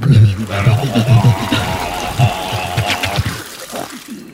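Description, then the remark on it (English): A voice gurgles and sputters wetly, imitating seawater being poured into a mouth, with a few seconds of bubbling, choking throat sounds that trail off at the end. “I bet, though, Usidor would love some of that water from the sea into his mouth”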